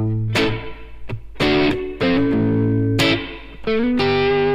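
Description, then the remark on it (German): A distorted electric guitar plays a handful of loud, sustained chords alone, each strum attacked sharply and ringing out before the next, with reverb placed before the amplifier giving a washed tone. “Der Hall ist jetzt gerade vor dem Amp.”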